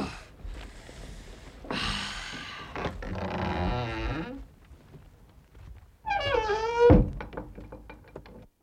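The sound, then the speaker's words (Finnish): The wooden door latch of an old threshing barn standing alone at a forest edge rattles open amid scraping and creaking, followed by a solid thunk of the door, all fairly loud with no talking. The door has no lock, only a latch. “Ovessa ei ole lukkoa. Tämmönen salpa vain.”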